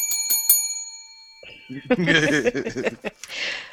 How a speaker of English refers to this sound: And I hope that you have nightmares this evening about me ringing this fucking bell.